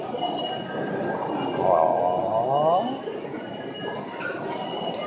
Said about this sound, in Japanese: ここ電車のとこだ。